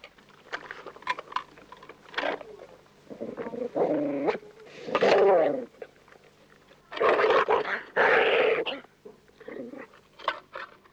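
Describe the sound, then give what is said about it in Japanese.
A dog growls in several rough, rumbling bursts of about a second each, separated by short pauses, with faint clicks and shuffling in between. “僕の彼女ってかどんなの出てるの、犬だよこれ。でしょうね、犬ですよこれはね。”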